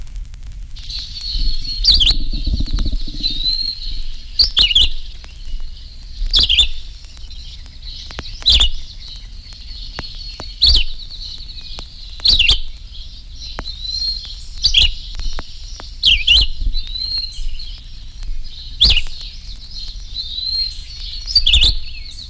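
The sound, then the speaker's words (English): A red-eyed vireo sings short, clear warbled phrases repeated about every two seconds, each separated by a brief pause, steady, with no one talking. “The red-eyed vireo says, "See me. Over here, hear me," as he feeds leisurely through the treetops of village or forest.”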